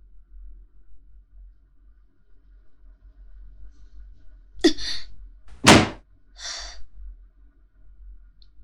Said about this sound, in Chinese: 很好，摔门。